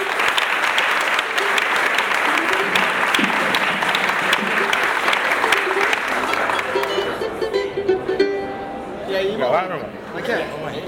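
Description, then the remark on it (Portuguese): A crowd claps loudly for a composer joining the roda, a dense, steady burst of applause that thins out after several seconds, as voices and a cheer or two come through underneath. “Dê uma salva de palmas do povo da Vera.”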